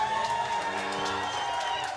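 A crowd claps and cheers loudly and steadily, a dense wash of applause with scattered whoops carrying on without a break for the whole stretch.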